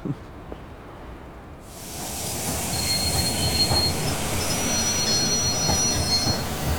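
A train rolls in to Kemble station with a steady low rumble, then a loud hiss rises after a couple of seconds and high, thin wheel squeals ring out as it slows.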